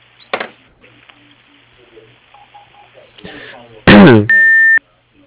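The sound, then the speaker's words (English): The answering machine tone of Kornmara Gardens, after a greeting asking callers to leave their name and phone number: one loud, steady, high-pitched beep lasting about half a second, right after a brief harsh burst of noise, with only faint murmuring before it. “Please leave your name and phone number after the tone.”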